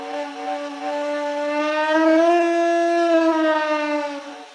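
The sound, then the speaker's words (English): A synthetic roar from an artificial air-driven vocal tract hooked up to a big air tank: one long, buzzy, harmonic-rich call that swells slightly in pitch and loudness midway, then eases down, with no talking. “So I'm quite happy because it has the pitch of a human, but then it's still a roar.”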